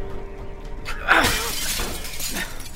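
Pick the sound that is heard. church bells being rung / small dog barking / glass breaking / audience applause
glass breaking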